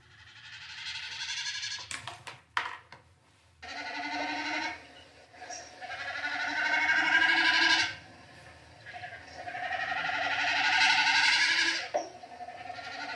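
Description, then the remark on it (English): A snipe, a small bird, calls in long, wavering, bleat-like notes with a buzzy, almost electronic tone, repeated in two- to four-second bursts after a few sharp clicks, with no voices. “Except I remember as a little kid being surprised to discover there was such a thing as a snipe. You know, it was this little bird that wasn't so uncommon, like they were around.”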